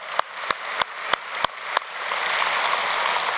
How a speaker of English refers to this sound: The candle's lit today. We celebrate that it's lit, right? We clap because someone gave their life to Christ over the past 7 days. So we can celebrate that.